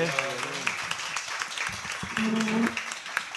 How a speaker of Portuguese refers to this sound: Uma salva de palmas. Salve.